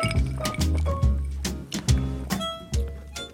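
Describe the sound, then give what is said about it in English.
Glasses of non-alcoholic spirit and soda over ice clink together in a toast, a quick series of bright knocks with short ringing tails. No one speaks. “Cheers. Cheers.”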